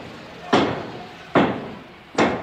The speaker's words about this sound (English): A sound effect of hammer blows, 4 hammer blows.